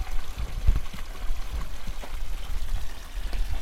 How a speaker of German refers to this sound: Am Rande des Dorfplatzes von Lakushti plätschert ein alter steinerner Brunnen.